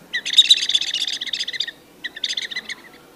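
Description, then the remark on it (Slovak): A Hubertus "turbo mouse" predator call device, used to lure foxes, imitates a squeaking mouse, giving rapid, shrill, chirpy squeaks in two fairly loud bursts, a long one followed by a shorter one after a brief pause. “Firma Hubertus vyvinula takzvanú turbomyškovačku, alebo aj tento typ vtáčik. Takže dá sa aj zaimitovať týmto.”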